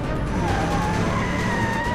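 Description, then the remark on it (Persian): A car driving over the speed limit, its engine roaring with screeching, sliding tire noise, loud and continuous across the whole moment with no one speaking. “خب نه تنها داری با سرعت غیر مجاز رانندگی میکنی، بلکه تقریبا شک ندارم که گربه ها اجازه رانندگی ندارن.”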